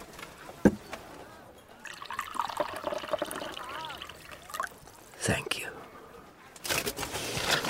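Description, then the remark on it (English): Liquid pours steadily into a cup for a couple of seconds, its gurgling pitch rising as it fills, between a few sharp knocks and soft, hushed voices. “Then bring me the cup. Shall I pour out for you?”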